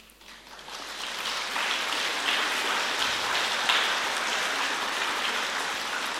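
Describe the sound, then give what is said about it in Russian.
An audience claps together in a dense, steady patter that swells over the first second and then holds at an even loudness throughout, with no voices over it. “То есть вы хлопаете, почему мне?”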